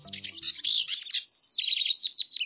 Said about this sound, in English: A house wren sings from deep inside a thicket. With its tail cocked at a jaunty angle, this small brown wren presents us with a classic bird image.